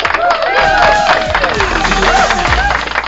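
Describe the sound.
An audience applauds to welcome a program's founder onto the stage, a dense, steady wash of many hands clapping that fills the whole three seconds at a fairly loud level, with some voices or tonal sounds faintly mixed in.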